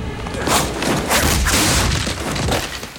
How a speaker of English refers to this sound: Two boxers pull her back and hold her as the sneering Englishman performs a roundhouse and kicks her hard in the stomach, sending her crashing through a lattice partition.